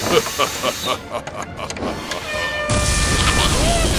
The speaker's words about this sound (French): Mais qu'est-ce que ceci? Le démarrage du moteur, je suppose. Impressionnant.